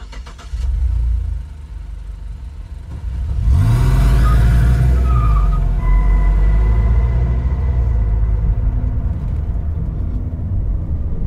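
A car engine turns over and then rumbles steadily, rising with a surge of revving before settling into a continuous low drone of driving and road noise, fairly loud.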